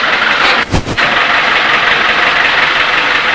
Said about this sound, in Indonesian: Berisik ya, itu apa sih? Lagi bikin jalan. Oh, mesin giling. Ayo kita gambar mesin giling. Coba kita. Ini mesin giling. Mesin giling mundur.